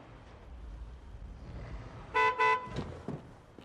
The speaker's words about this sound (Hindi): मैंने इनको 100 मरतबा कहा है कि यहाँ इतना हॉर्न मत बजाए, समझते ही नहीं ये लोग।